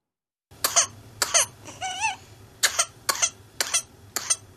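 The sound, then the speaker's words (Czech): A whooping cough (pertussis) fit of harsh, rapid coughs in bursts, broken by a high, rising whooping gasp for breath, then more sharp coughs following in quick succession. “Až 50krát denně takovýto záchvat, po kterém se pacient nemůže nadechnout, tak se projevuje černý kašel.”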